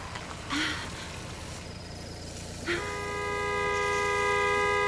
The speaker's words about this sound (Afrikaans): Hoekom moet hy elke keer so op sy toeter lê?